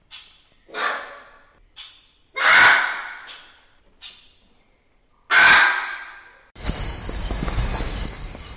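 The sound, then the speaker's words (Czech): Exotic parrots call in a new bird pavilion at Prague Zoo, home to about 40 species of rare birds: a series of harsh, raspy squawks, two much louder than the rest, followed by a continuous noisy burst of screeching chatter that runs to the end. “Kdo jste typoval exotické papoušky, máte pravdu.”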